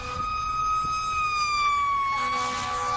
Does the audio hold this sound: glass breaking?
no